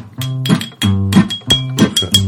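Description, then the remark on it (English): Bright clinks of an object tapped against something hard as percussion, repeated in a loose rhythm about five times, fairly loud over a steady low humming or sung tone. “Oh, actually, with the if you clink it on this, it'll sound cooler.”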